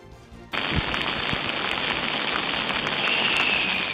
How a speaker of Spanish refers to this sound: Son los chorros de la playa de Madrid que acaban de ponerse en marcha por las altas temperaturas.